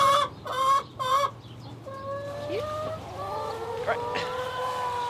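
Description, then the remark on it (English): A chicken clucks, three loud, quick bursts followed by longer, wavering squawks and calls over a steady low hum. “Sorry, chicken.”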